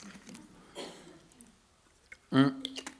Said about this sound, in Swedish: Och nu måste jag dricka vatten.